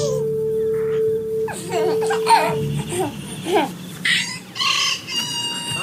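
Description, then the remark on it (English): Chicken clucking, a run of short, bright clucks that follows higher babbling calls of a baby. It starts sparse and turns into quicker bursts toward the end, with a steady hum underneath. “Oh, I just like the transition from the baby to the chicken or whatever.”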